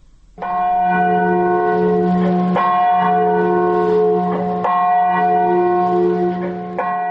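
The large bell of the Katyn memorial, in a forest near Smolensk, Russia, tolls four times at a slow, steady pace, each loud strike blending into a long, humming ring that never fully fades before the next.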